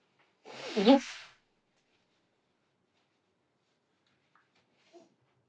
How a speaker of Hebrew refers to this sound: רגע שנייה, אני אקנח את האף.